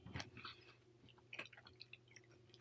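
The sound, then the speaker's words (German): Wet chewing of a huge piece of coconut chocolate from a large 200-gram bar, with soft irregular squishes and small crunchy clicks in quick succession. Fairly quiet, and no one is talking. “Erzähl doch noch weiter, während ich das riesige Stück von der leckeren Kokoschokolade in mich reinstopfe.”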